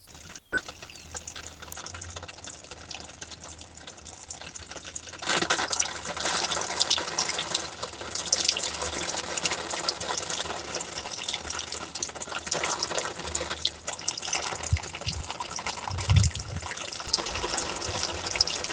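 Water pours and trickles steadily through a vermifilter, a continuous rushing that swells louder after a few seconds, with faint splashes and drips mixed in and no voices.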